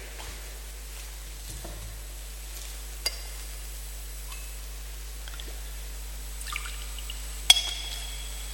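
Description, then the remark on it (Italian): A faint trickle of water poured into wine in a chalice, with a few soft, sharp clinks of metal and glass against a quiet hum. No one speaks. “L'acqua unita al vino sia segno della nostra unione con la vita di colui che ha voluto assumere la nostra natura umana.”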